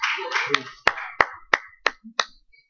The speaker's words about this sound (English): Are you understanding? I got one clap for that. Amen.